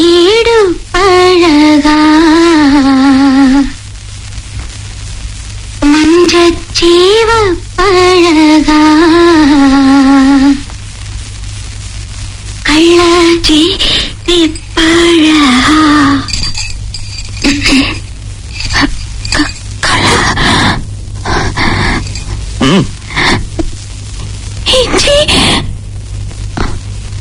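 A well-known Tamil film song is sung in long, wavering melodic phrases with vibrato over a steady low hum. Pauses break the phrases, and the second half turns choppier, with clinking and clattering noises.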